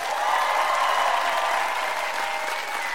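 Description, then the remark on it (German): Steady applause from an audience after a song performance, a dense wash of many hands clapping at once, loud and sustained throughout with no voices standing out. “ein Applaus jetzt bitte.”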